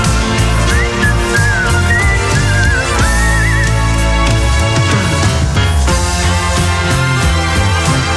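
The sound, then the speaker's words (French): A bright whistled melody rises and wavers over a full, loud band track played on RDL radio for a few seconds before the instruments carry on alone; no one speaks. “Et on sifflote là”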